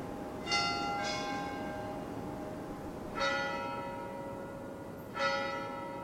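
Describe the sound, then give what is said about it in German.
Church bells of the old bell tower in Portbou ring out in a few slow, uneven strikes, each leaving a long shimmering hum that fades beneath a steady outdoor hiss. “Wenn man aus dem Bahnhof Portbou aus Glas und Eisen zur Weltausstellung 1929 gefertigt heraus ins Freie tritt, empfängt einen der alte Glockenturm und verwinkelte, steil abfallende Straßen.”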